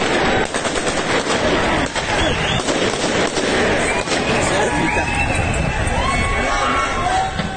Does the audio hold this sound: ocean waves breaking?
no